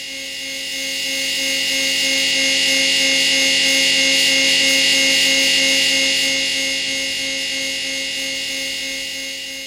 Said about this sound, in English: which is basically the buzz of an electric chair. It is... It is terrifying